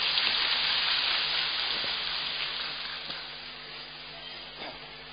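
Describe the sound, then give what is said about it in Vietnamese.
A crowd in the Madagui church applauds a woman invited up to share, in a dense, steady wash of clapping that holds for several seconds and eases off slightly toward the end, with no talking over it. “Chúng ta cho một tràng pháo tay thật lớn để chia sẻ.”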